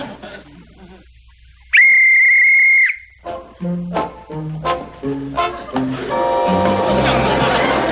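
A single loud, sustained whistle rings out clearly for about a second, steady and bright, followed by a burst of lively orchestral music with tinkling, plucked notes.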